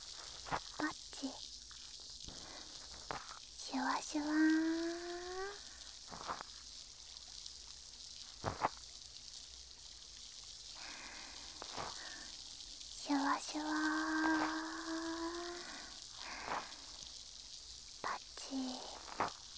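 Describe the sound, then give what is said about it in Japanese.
A close, steady fizzing hiss with scattered crackles and small clicks, like bubbles popping right by the ear, while a soft voice murmurs briefly twice in the middle. “耳の奥までシュワシュワ音が響いて気持ちいいですか？”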